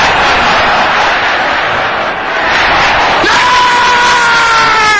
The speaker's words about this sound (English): Can I hear you shouting this loud and clear? I'm sure you can shout it louder than that. Make it louder than that, beloved.